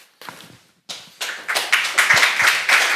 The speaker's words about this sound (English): Huge applause.